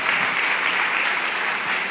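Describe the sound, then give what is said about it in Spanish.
An audience at a church service bursts into sustained applause for God, a dense, steady wash of many hands clapping at once with no pauses, loud and even throughout. “Y si lo crees, dame un fuerte amén y un fuerte aplauso para nuestro Dios.”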